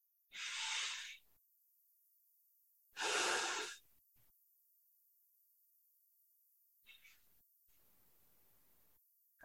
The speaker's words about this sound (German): Atme durch die Nase, in den Bauch. Noch 2, 3 Mal. Ganz in deinem Tempo.